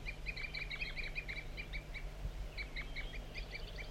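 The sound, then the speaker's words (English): A wild bird gives continuous short, high toop calls in quick repeated bursts, frequently joined by another bird, 4-3, steady throughout over a low constant hum. “Continuous toop by the wild bird, also joined frequently by 4-3.”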